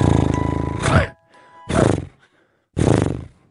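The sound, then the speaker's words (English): A person imitates a horse, giving a loud, pitched whinny followed by two shorter breathy snorting neighs, each burst separated by brief pauses. “Sorry, sometimes I act like a horse when I hear sordid Married at First Sight rumours.”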